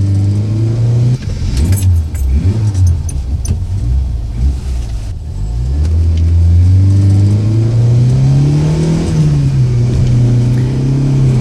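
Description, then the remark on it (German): A car engine revs and accelerates hard during a car chase on a road winding down to the coast, its pitch dropping with gear shifts and then climbing steadily, loud, with a brief metallic jangle near the start. “Justus stieg zu Peter ins Auto und los ging die Verfolgungsjagd.”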